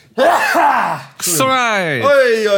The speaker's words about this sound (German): Moment, ich muss kurz niesen.